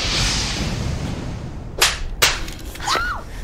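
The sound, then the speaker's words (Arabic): Two sharp, loud whip cracks land about half a second apart as a person is lashed, followed by a fainter swishing lash, all over a steady low background hiss with no talking. “اضرب حتى تموت”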